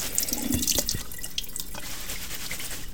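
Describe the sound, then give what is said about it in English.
Tap water runs steadily into a sink while nettle leaves are rinsed beneath it, with splashing and dripping and no one speaking. “We're just going to rinse off our nettles.”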